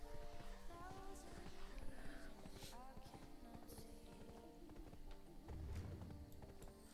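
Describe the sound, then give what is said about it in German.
Steady clip-clop of a horse's hooves at a brisk pace in a video game, running throughout over a busy layer of game music and ambient sound. “Man muss aber auch dazu sagen, ich habe ein scheiß Pferd.”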